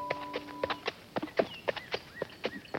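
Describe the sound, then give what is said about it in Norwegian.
A horse with a rider on its back trots at a brisk, even pace, its hooves making about ten sharp clip-clop beats, with faint bird chirps in the background. “Jeg klarer bare et lite trav.”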